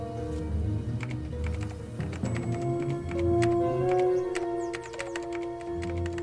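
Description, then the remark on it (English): Rapid, irregular clicking of a laptop keyboard, with a karaoke machine microphone attached, as someone types the words "This is the police," steady for several seconds, with a faint sustained tone humming underneath. “Peter opens up his laptop and attaches the microphone of the karaoke machine. He types the words”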